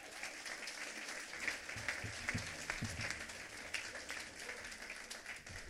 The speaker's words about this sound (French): Bienvenue, vous pouvez l'applaudir.